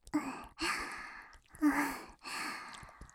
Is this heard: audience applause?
no